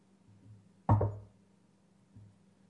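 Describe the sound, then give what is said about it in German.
One sharp, solid knock on a door rings out with a short resonant decay, framed by a couple of much softer, muffled taps. “Und die Tür war zu. Na ja, was macht's? Man kann ja klopfen, nicht?”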